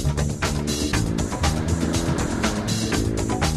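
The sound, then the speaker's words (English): A small electric steering fan motor runs continuously while being checked, a steady loud whirring hum with a gritty, fluttering edge and no pauses, with no voices. “Now they have to check out their steering fans.”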